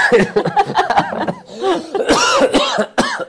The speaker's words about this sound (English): I'm about to have a coughing fit.